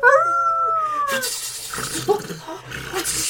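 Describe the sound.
A voice imitates a wolf's howl: a single long, wavering wail that slides downward for about a second, followed by breathy, noisy rustling sounds.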